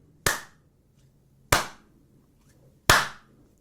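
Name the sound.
hand clapping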